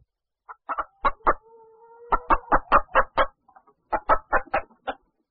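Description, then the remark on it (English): A hen clucks in quick, rhythmic bursts of short clucks, with a brief pause before another run of clucking. No talking is heard. “A hen.”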